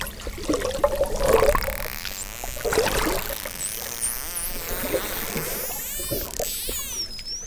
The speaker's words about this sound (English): I mean, a lot of that is the dolphins just doing whatever they're doing.